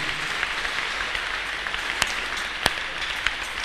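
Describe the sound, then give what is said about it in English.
A crowd claps together for God in a steady, dense wash of applause, with a couple of sharper individual claps standing out above the sustained noise. “Let's clap our hands for our God.”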